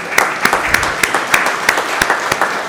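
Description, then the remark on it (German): A crowd applauds steadily to thank the Frauentreff women's group for preparing the tea, with a dense wash of clapping punctuated by several sharper individual claps, fairly loud and sustained throughout without any talking. “Da könnte man auch klatschen, genau, auch da darf man.”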